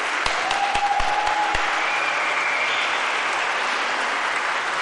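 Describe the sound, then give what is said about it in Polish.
A crowd bursts into loud, sustained applause, dense clapping filling the whole stretch with a few sharper claps standing out early on, and no voices rising above it. “Gromkie brawa.”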